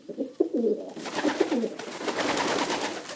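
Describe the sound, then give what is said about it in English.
Homing pigeons coo in low, rolling phrases, several calls overlapping, while a steady rustling, fluttering noise rises beneath them partway through. “Today, messenger pigeons are called homing or racing pigeons.”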